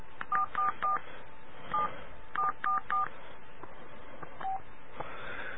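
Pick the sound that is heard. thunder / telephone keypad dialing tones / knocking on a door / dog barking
telephone keypad dialing tones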